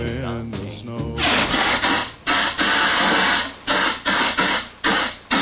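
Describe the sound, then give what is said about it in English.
A loud rushing hiss of a fire extinguisher spraying white powder into a kitchen oven at big flames, blasting steadily then cutting out and restarting in several short bursts, after a brief tonal voice-like sound at the start. “Scott aims the extinguisher in the oven. He fans the white powder with an oven mitt.”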